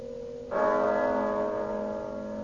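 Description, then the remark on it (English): A single deep church bell strike tolls the hour of one, ringing out clearly, its rich overtones humming and slowly fading over a faint background hum, with no voices present. “But as the bell sounded, light flashed up in the room.”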